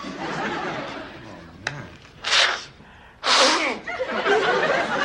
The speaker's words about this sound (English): Excuse me. That was me blowing my nose. I can wipe the tears from my eyes as I talk, but I can't hardly blow my nose at the same time.